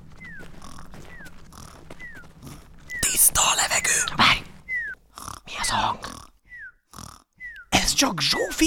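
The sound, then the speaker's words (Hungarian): A woman asleep in a hammock in a kitchen snores, with rough, rasping inhales alternating with short whistling exhales, repeating in a steady rhythm, fairly loud. “kisasszony horkolása.”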